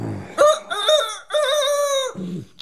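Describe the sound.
A voice imitates a rooster's crow: one loud, drawn-out cock-a-doodle-doo in several rising and sustained phrases, clear, followed by a brief low murmur.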